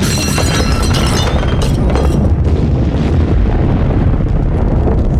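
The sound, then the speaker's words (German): A huge, loud explosion bursts out at the start as liquid is dripped into a bubbling mixture in a crucible, with a deep, rumbling roar that lingers and slowly settles into a dense low rumble, with no voices. “Mann, oh Mann, aber auch war das ein Knall. Der ganz, ganz große Knall.”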